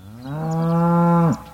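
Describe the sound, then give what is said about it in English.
A single long, loud cow moo, rising from a low start into a steady drawn-out call before cutting off abruptly, with no talking. “Over the years, humans have settled just about everywhere and brought with them cows.”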